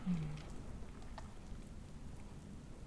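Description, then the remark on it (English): Steady, soft rainfall with a low rumbling wash underneath, continuous and fairly quiet, with no voices present. “I've always liked rain and fireplaces and cave, like that hum, that droning sound in a cave.”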